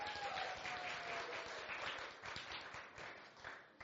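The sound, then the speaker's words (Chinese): A crowd applauds steadily, many hands clapping in a dense, continuous patter that stays fairly even throughout before easing slightly toward the end, with no voices standing out. “So I have not heard this applause in a very long time.”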